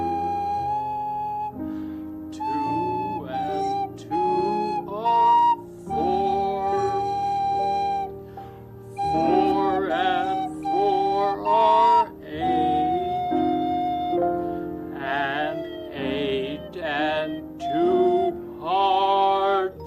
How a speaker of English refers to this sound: If you'd sing one and one or two, and I'll try to play it on the slide whistle.